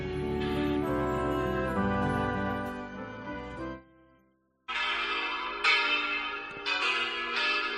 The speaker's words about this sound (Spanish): Alberto, estas campanas te suenan